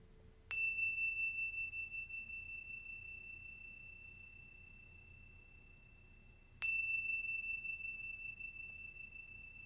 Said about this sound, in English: When you hear the sound of the chimes, listening all the way through to the end, and then gently coming back into this space.